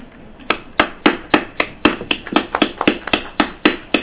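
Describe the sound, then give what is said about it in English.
Several committee members clap their hands together in a brief, uneven burst of applause, the sharp claps overlapping at a moderate pace for a few seconds with no talking. “For the first time, Jadidji, I want the committee to clap hands.”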